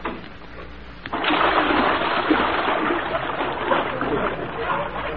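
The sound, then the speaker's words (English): A sudden splash after a second of quiet, then a steady rush of churning, bubbling water that stays loud to the end. “are those bubbles you?”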